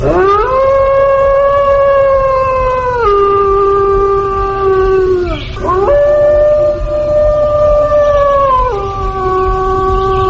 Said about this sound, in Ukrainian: Так виє самець вовка, який закликає вовчицю.